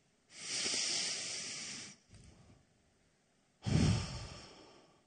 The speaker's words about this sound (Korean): 여러분 한번 숨을 크게 한번 들이마셔 보십시오.